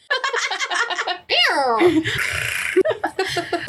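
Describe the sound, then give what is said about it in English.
A voice makes playful vocal sounds, then a falling, sliding cry that becomes a raspy, rumbling sustained noise, a person imitating a cat's purr right up on the microphone, followed by a few more quick vocal bursts. “Like, I don't know if you can actually hear me purr.”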